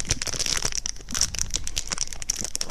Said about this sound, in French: On peut choisir l'option quinte de tout. L'option froissement de papier de bonbon.